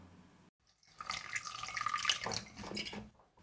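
Water pours in a steady, splashing stream onto soil for about two seconds, moderately loud, then trails off; no one speaks. The water is being given to seeds just sown in moist, fertile earth and covered with a protective layer.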